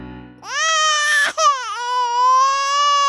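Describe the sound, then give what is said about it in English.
A baby wails loudly and continuously, a high, strained cry with a brief catch for breath partway through before the sustained wail resumes and swells. “The crying, somehow, impossibly, got even louder.”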